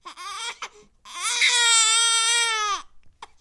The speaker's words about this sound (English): Turns out the sound of a newborn baby's cry may actually depend on the language spoken by its parents.